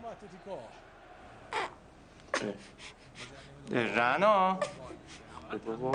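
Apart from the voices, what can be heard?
baby crying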